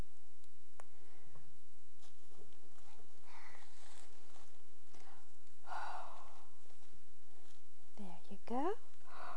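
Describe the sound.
A quiet stretch of faint rustling and breathy sounds, then near the end a drawn-out yawn with a voiced, squeaky rise and fall in pitch.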